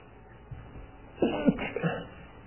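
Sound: sneeze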